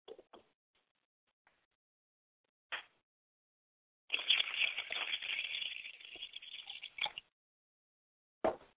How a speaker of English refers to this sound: so I'll just go ahead and get purified and pour in the water to my hands. I have to make sure that water hits the ground, and it's very important that where I'm standing is purified.